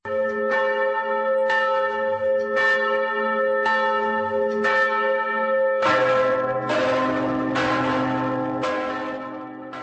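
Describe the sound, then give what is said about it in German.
Church bells across the Czech Republic ring out steadily at 6 p.m. on a Sunday in commemoration, with rich, sustained overtones and strikes arriving at a regular pace; a second, fuller peal joins partway through, making the ringing denser and louder. No voices. “Am Sonntag um 18 Uhr erklangen in ganz Tschechien die Glocken”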